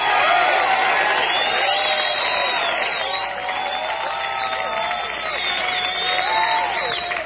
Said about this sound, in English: First of all, the man who put the B in bass for standing up and talking back from Grimsby and Lincolnshire in England, will you please give a nice round, warm thing of applause? For on the bass guitar, …! Hey!